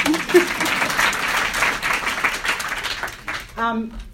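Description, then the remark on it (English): An audience breaks into dense, steady applause lasting about three seconds, many hands clapping at once, before it fades out and a single voice starts to speak. “You want to clap?”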